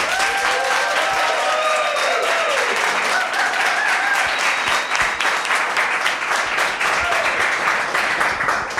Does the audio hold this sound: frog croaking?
no